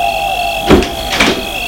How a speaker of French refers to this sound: Le portail s'ouvre.